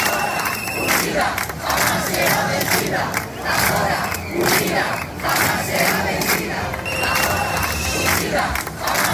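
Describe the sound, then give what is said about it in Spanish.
Residents of the Sanabria area in Zamora, Spain, protest in the street on a Sunday against cuts to AVE train services: a loud crowd of many voices shouting and chanting together in repeated rhythmic bursts, with steady dense noise throughout and no single speaker standing out. “En este último lugar, el domingo, sus habitantes decidieron salir a la calle.”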